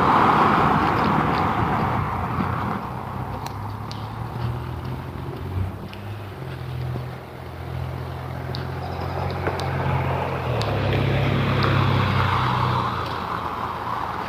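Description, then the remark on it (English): A city maintenance truck's engine rumbles steadily on the street some distance away, a continuous low drone that swells and eases slightly over the stretch, with faint traffic hiss around it and no voices. “And so far away from it, I can't tell if they're blinking blue and red or just blinking warning lights, because it's actually something like a city maintenance truck or something.”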